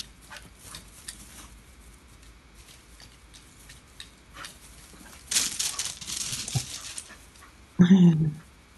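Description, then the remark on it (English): A dog pants in quick, breathy bursts, then lets out a brief, high whimper near the end over a quiet outdoor background, as it discovers its new backyard for the first time. “This is my dog, Ransom Ruth, when she discovered, the first time, her new backyard.”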